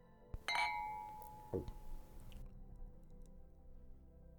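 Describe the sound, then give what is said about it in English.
Glasses clink together in a toast, a bright ringing chime that lingers and fades, followed a moment later by a softer knock, with no voices. “Let's drink to that. Another embarrassing moment survived together. Cheers.”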